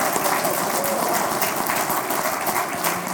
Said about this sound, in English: But we have Councillor Kim Ashton, who is here from Mid-Ulster. Give Kim a rousing round of applause.